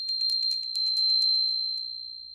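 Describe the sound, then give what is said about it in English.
A small bright bell rings rapidly, a quick tinkling trill of repeated strikes that carries a sustained high tone and fades out over about two seconds, with no one speaking. “Did the bell ring? I think it did.”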